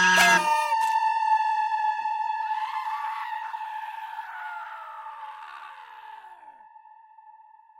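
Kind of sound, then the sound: sound effect, screaming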